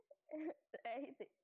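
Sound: person fake crying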